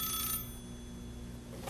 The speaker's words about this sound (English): that's not the surf machine, and it's not this bell. No, it's my telephone. Let's answer it.